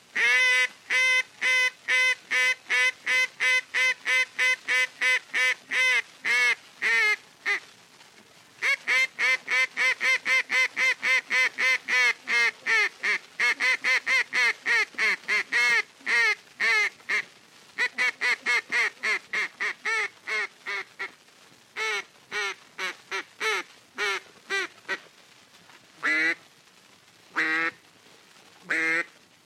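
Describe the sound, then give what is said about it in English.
Duck calling in flooded timber at Stuttgart, Arkansas: long, rapid runs of loud, nasal quacks from a caller, broken by a few short pauses and ending in slower, spaced calls. No talking. “And here is duck calling as done in the flooded timber at Stuttgart, Arkansas.”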